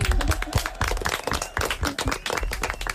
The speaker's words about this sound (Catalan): Vinga. Molt bé, un aplaudiment.